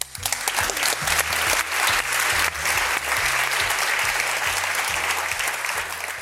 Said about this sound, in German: Sich selber zuklatschen ist schon cool, oder?